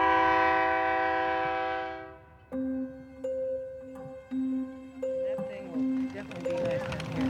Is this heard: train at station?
yes